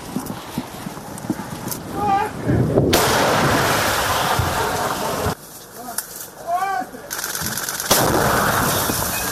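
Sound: artillery gun firing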